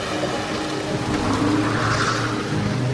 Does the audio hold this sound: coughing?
no